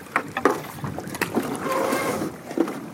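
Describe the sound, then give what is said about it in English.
A canoe being pulled over a big beaver dam of twigs and branches on a winding marsh river in the Northeast scrapes and bumps, with irregular knocks, creaks and snapping twigs, plus a brief watery swish partway through. “Pulling the boat over now, kind of perched up on top of this big pile of twigs and branches.”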